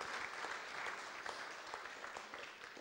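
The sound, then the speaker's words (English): An audience at a worship service claps for the readers in a steady, dense wash of applause, many hands overlapping at a moderate level for a few seconds, with no voices on top. “Give them a clap because some of them read so well.”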